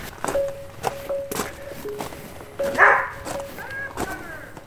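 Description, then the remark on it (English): A husky barks a few times, with sharp yips breaking through a steady run of thudding footsteps and knocks. “He's barking at me, sorry.”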